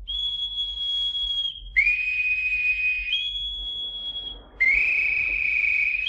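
A shrill boatswain's whistle, blown to call all hands on deck, sounds in long, sustained blasts, stepping between a higher and a lower pitch in four steady segments, loud with no voices over it.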